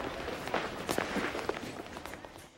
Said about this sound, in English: I don't know why they had the floor mics cranked up to like 25, but that was a lot of people's footsteps in that scene for yeah, no good reason.